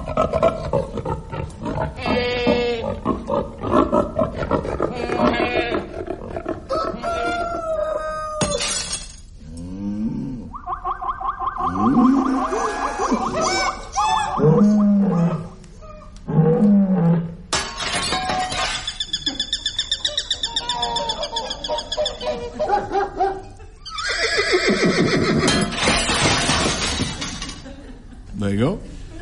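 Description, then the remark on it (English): A loud, busy run of assorted animal noises: growling roars, hoots and shrill, tonal calls overlapping one after another, with a few short pauses before the racket picks up again. The noises are played as a clue to the book title Animal Farm. “There was animal noises, and then there was that other.”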